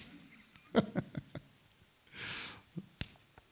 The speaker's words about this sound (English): Such a beautiful sound. I always think of the wind of the Holy Spirit blowing when pages of the Bible are turning.